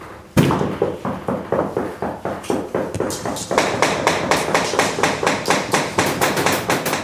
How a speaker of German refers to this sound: in vielen handwerklichen Tätigkeiten spielt das Klopfen eine wichtige Rolle